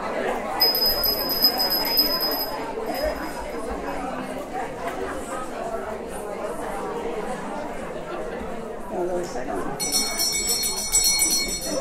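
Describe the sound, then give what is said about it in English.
A hand bell rings with a bright, sustained metallic tone, first near the start and again more densely toward the end, over a steady murmur of crowd chatter. “However, I have three bells, and I don't want to resort to it, but it sounds like I'm going to have to.”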